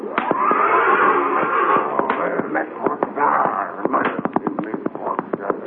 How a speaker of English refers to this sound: When he arrived, he found Indian Joe making another attempt to subdue Lightning Jim's big black horse, Thunder.